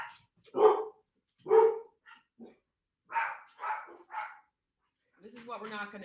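Dogs bark in a series of about six sharp, loud barks spaced unevenly over several seconds, followed by a brief drawn-out whining sound at the end. They are pet dogs, including Carlin, Bunny and Chip.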